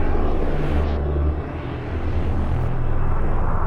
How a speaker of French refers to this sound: Chose exceptionnelle également cette journée de Kippour, des avions militaires ont survolé les villes.